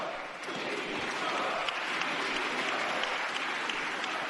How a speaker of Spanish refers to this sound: Después de sentarse, los diputados de nuevo volvían a levantarse para aplaudirle por segunda vez.